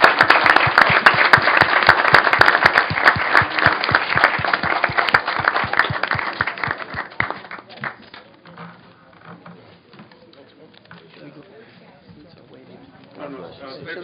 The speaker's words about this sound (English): a round of applause for moderating. Not an easy task at all.